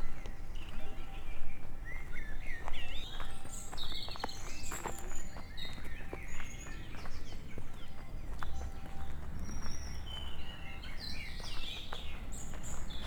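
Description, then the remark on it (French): Steady footsteps crunch along at an even walking pace as someone walks into the heavily wooded state forest of the Brioude estate, not far from a town, while birds chirp and sing in short bright bursts overhead, with a low constant rumble underneath. “À présent, auditeur, auditrice, je rentre dans la forêt.”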